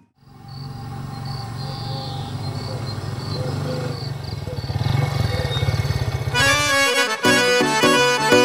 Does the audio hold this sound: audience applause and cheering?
no